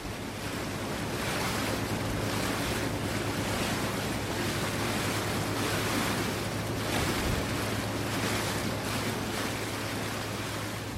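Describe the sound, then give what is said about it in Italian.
A ferry crosses the Danube River toward Vác, its engine holding a steady low hum beneath continuous rushing water and gusting wind, loud throughout with no voices. “Un altro traghetto, questa volta per Vác.”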